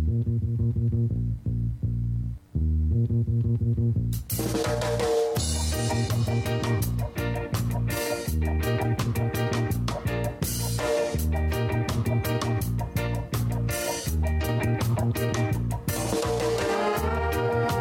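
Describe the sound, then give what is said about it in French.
Intro jingle of the show Le Moulin à Parole on Radio Campus in Orléans: a low, bass-heavy melodic line plays alone for about four seconds, then drums and a full band come in with a steady, punchy beat, loud and continuous with no voices. “Allez, je lance un petit générique et puis on y va.”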